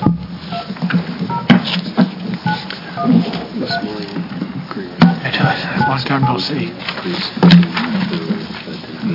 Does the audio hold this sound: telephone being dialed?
yes